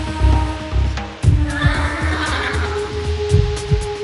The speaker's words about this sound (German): Sein Pferd schnaubte leise und blies warm Odem in die eiskalte Luft.